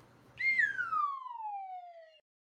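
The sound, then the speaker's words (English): A single bright whistle from a cat sticker animation slides smoothly downward in pitch for nearly two seconds, clear, with only a faint low hum beneath its start and no one talking. “Oh my God, that animation is so cute. I forgot about that. I was like, are you whistling, cat?”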